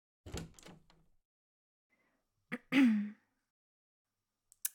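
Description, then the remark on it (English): A couple of quick, solid knocks on a door, followed after a pause by a brief rustle and a short creaking sound. No one speaks. “Now he knocks.”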